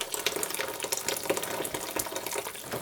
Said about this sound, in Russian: Так, это готово. Заливаем кипятком. Можно бульоном залить, овощным.